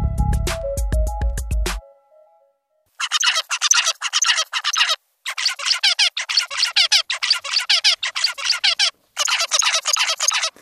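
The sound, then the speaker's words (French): A male zebra finch, a small Australian bird, calls: loud nasal chirps and squeaks fired in rapid clustered bursts with short pauses between groups, after a brief low tonal sound at the start. “C'est un cri très particulier, un cri donc d'un petit oiseau d'Australie qu'on appelle le diamant mandarin.”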